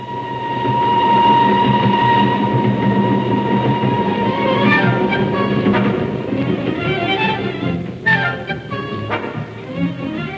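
A train rumbles steadily along the rails, with sustained metallic whines and a dense low roar, then sharp squeals and clanks break through near the end.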